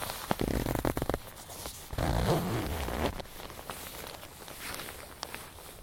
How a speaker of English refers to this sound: I'm going to do my zip up.